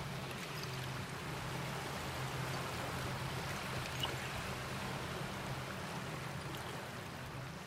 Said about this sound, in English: I think my favorite part of coming down here, actually, is sitting quietly and listening to the water come in, because you can hear it, the tinkling noise of broken glass as the water comes in. Usually around dusk, it sounds more, the ambient music.